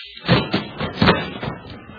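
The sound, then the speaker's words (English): A flurry of punches in a fistfight that knocks a man out: five or six heavy, dull thuds land in quick, uneven succession, the loudest near the middle, then trail off into softer bumps. “You knocked him out.”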